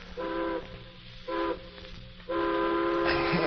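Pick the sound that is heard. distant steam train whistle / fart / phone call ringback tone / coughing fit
distant steam train whistle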